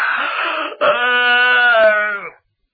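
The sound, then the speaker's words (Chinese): A voice imitates a yawn in a storytelling performance, as the character Xu Liang pretends to yawn: a breathy intake followed by one long, drawn-out voiced groan that sags slightly in pitch before fading out, loud and alone with no other talk. “徐良把门关上，在里头插好了，假装着打了几个哈欠。”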